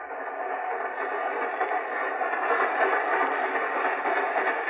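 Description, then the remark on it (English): A steady, continuous rumble of a train rolling along the tracks, even and unbroken throughout, with a slightly muffled, filtered quality and no voices. “I detest train rides.”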